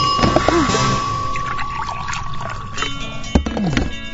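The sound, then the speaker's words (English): Dunkin' Donuts coffee pours into a cup in a steady splashing stream lasting a few seconds, with a soft thunk near the end and a faint steady hum in the background. “Oh, Dunkin' Donuts coffee, that is.”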